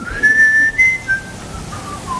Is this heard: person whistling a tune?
yes